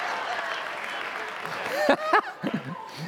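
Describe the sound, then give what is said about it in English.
An audience applauds in a steady, dense patter of clapping that fades as a few voices and light chuckles rise over it toward the end. “I told the early service, if my wife was here, and she is now, that's the first one I think she's clapped for because she's like, know all about that one.”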